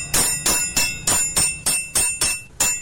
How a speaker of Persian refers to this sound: در کارگاه تاریک و سرد حلبی سازی تالقان مرکز ولایت تخار، صدای چکش های رستم 68 ساله هنوز هم در میان سکوت بازار می پیچد